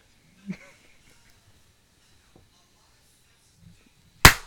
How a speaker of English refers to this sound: Cool. Solid clap, everybody.